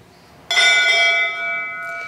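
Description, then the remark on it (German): A single bright strike of a fire brigade bell, rung during a church service near Wesel, its clear metallic tone ringing on and slowly decaying with steady, sustained overtones. No one speaks over it. “Mit diesem Ton grüße ich Sie heute Morgen. Er gehört zu einer Feuerwehrglocke.”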